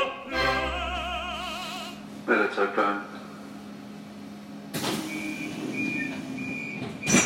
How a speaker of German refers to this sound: Mit der U-Bahn geht es für mich Richtung Odeonsplatz.